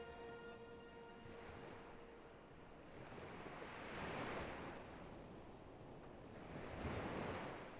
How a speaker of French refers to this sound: La mélodie des vagues a quelque chose d'apaisant. Cette même sensation que vous éprouviez enfant, bercé par les bras de votre mère.